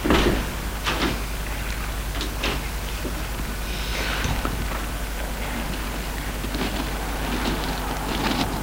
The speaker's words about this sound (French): Il entend des pas. Une porte qui s'ouvre. Il n'ose pas bouger.